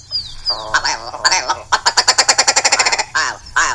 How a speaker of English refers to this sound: That's the state bird of Alaska, folks. Ooh, that is the majestic willow ptarmigan doing his call.